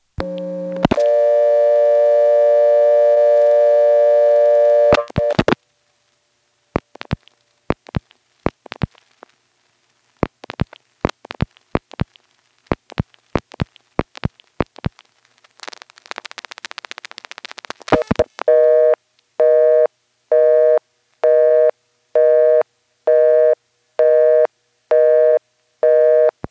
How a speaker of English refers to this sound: You see, it started to make the billing clicks that NX1s always make when they're ticketing the call, and then it somehow dumped to a busy. What I don't know is how it knew to dump us off to a busy.